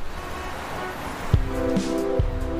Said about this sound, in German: Fehlt nur noch der richtige Bus. Ach, da ist er, ja. Guck mal, der hat sogar oben Doppeldecker.